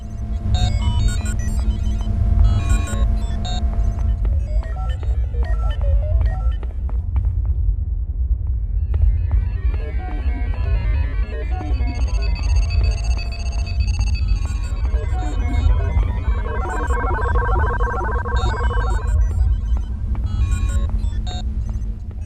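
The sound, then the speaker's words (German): Sci-fi ambience of walking across the bridge of the spaceship von Braun: a steady, heavy low hum underlies a busy scatter of electronic beeps, chirps and light metallic clinks at varied pitches, with no talking. “Insbesondere im zweiten Teil hören wir uns jetzt hier einfach mal an, wie das klingt, wenn man über die Brücke der von Braun geht.”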